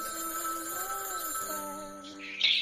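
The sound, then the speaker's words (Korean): A home telephone rings with a steady electronic tone and sustained, bright pitches, heard clearly, with no talking over it. “전화가 울리는 거예요. 집에 전화성 소리가 울리는 거예요.”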